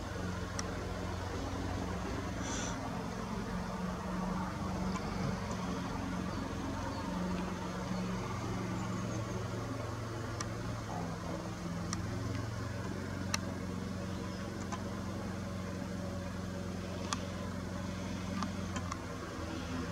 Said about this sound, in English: Now 6:15 p.m. And yes, next door is still mowing the lawn, for crying out loud.